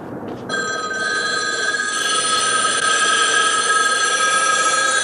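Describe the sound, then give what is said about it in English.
Many payphones ring at once in a big downtown Los Angeles intersection, their bells overlapping into a dense, continuous jangling that starts abruptly and holds steady and loud, with no voices. “imagines that all the payphones start ringing”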